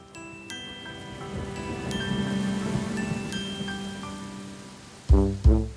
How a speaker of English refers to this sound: Rain, rain, go away. Come again another day, Mommy wants to play. Rain, rain, go away.